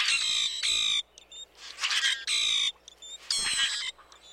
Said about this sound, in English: You can hear the roaring calls of common grackles in the eastern U.S. and Canada.